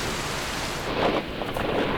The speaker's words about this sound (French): Un éclair déchire le manteau noir du ciel avec un bruit sec et désagréable. Par la seconde qui suit, un rideau mouette enrobe toute chose, la cour et ses arbres, la pelouse fatiguée.